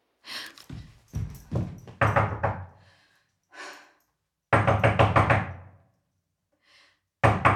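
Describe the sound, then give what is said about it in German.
Repeated knocking on a door in several bursts, loud and insistent, with short pauses between rounds and a few faint thuds in the gaps. “Bitte, ich weiß, dass Sie da sind. Machen Sie jetzt die Tür auf.”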